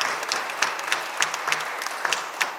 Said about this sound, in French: Applaudissons-nous. Amen.